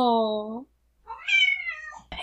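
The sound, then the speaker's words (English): A cat named Lulu meows twice at the door, trying to get in: a short, steady, lower-pitched meow, a brief pause, then a longer, higher, whining meow that rises and falls. Both are loud and clear, with no talking. “She's trying to get in the door.”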